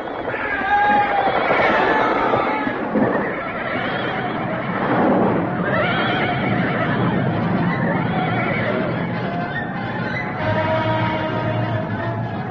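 Horses neigh and whinny repeatedly over a dense, steady rumble of galloping hooves, loud and busy, as if a herd is charging past.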